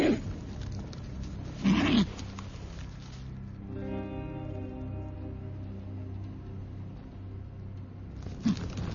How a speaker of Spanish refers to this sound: Docenas de los cóndores de California enormes y voraces están peleando por el cadáver de un ternero.